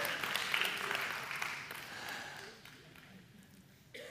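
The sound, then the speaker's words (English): A crowd claps steadily for a few seconds, a dense patter of many hands that gradually thins and fades, with a brief sharper burst near the end. “Yeah, don't clap for them. Stop it. Just stop it.”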